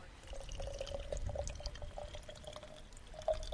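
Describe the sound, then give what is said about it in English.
Holy well water in Eastbourne pours through a filter in a steady, trickling stream for a few seconds, with a faint hollow ringing tone and soft gurgles. It is fairly quiet, with no voices. “So now I've got this amazing filter.”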